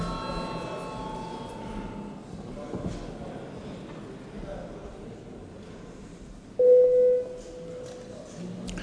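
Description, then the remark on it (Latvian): Against a low murmur of voices in the Saeima parliament, a bell sounds once before a vote on sending a bill to committees: a single steady mid-pitched electronic tone lasting about a second, noticeably louder than the background. “Lūdzu zvanu.”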